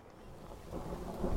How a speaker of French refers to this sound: Oh non ! Regarde, les gros nuages ! L'orage arrive !